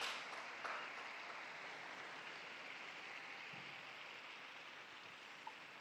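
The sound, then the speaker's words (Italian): A crowd applauds steadily for a newly beatified woman, a dense wash of many hands clapping at an even, sustained level with no voices over it, like a rainy hiss. “Facciamo un applauso alla nuova Beata, tutti insieme.”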